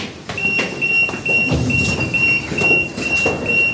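A security gate alarm at the entrance of the Wonderland exhibition in Brussels beeps with a steady high-pitched electronic tone, repeating in short pulses as each visitor passes through, over a busy background of footsteps and crowd murmur.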